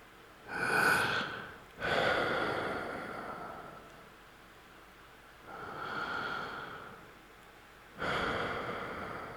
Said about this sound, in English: you just stop, just stare at an object, stare at the floor, something like that, and then you just breathe slowly and you listen to your breathing. Let's do it together, okay?